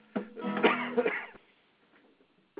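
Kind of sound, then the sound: human body sound, coughing fit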